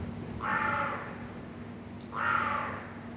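Two harsh carrion crow caws, spaced about two seconds apart, ring out clearly over a low, steady background hum, with a slight echo in the inner courtyard of an old building in Vienna's 1030 district, heard through an open window.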